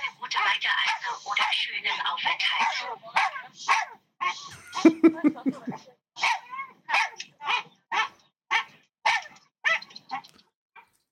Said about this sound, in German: Ja, also plötzlich, der wird die ganze Zeit schon an Bord gewesen sein. Ey, und er war dann die ganze Zeit am Bellen.